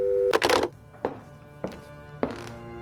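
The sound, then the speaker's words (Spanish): A telephone handset is hung up, clunking down over a steady tone, followed by a busy signal beeping in regular pulses about every half second, fairly quiet, with no voices. “Cuando cortó el teléfono, seguía sin poder creerlo.”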